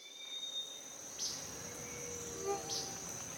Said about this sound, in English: Today, we're going to a rainforest in Panama.